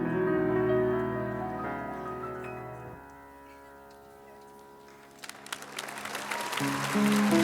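A held, sustained musical chord fades down, then audience applause breaks out in the final seconds, a dense rush of clapping that swells and grows loud while tones still ring underneath.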